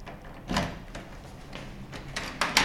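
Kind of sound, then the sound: household object, office door being closed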